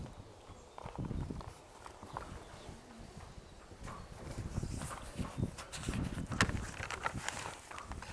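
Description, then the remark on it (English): The hooves of John Henry, a retired thoroughbred gelding, clip-clop at a steady walking pace on a hard surface as he is brought out, the irregular clatter moderately loud, with faint outdoor background noise and no talking. “Our next horse to come out today is our other thoroughbred gelding to be retired here, and you'll see that he's a lot smaller than Forgo.”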